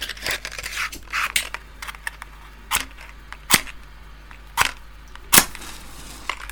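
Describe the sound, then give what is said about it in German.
A lighter being struck to light a cigar: a series of sharp, crisp clicks spaced about a second apart, preceded by soft rustling and crackling, with no talking. “Zünden wir mal an. Gib mir mal Feuer.”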